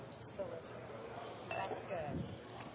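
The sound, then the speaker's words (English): Glasses of sparkling wine with a drop of Woodford Reserve Cigar Single Barrel bourbon clink together in a quick toast, a couple of short bright chimes, with soft talking murmuring underneath. “We'll say cheers.”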